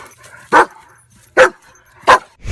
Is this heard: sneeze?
no